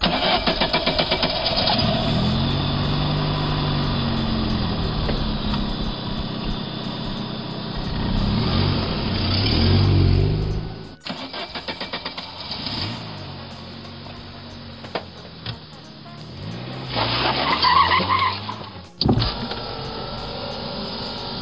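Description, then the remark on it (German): Historic car engines rumble and rev at the start of a historic vehicle drive at the Saalfelder Feengrotten, one after another rising in pitch as they pull away, with low sputtering idles and sharp accelerations layered over a steady mechanical drone. “Von dort aus führt die Fahrt mit den historischen Fahrzeugen zunächst in die Innenstadt, um den Marktplatz, dann geht's in Richtung Probstzella über Kaulsdorf, Hockeroda und Unterlogwitz,”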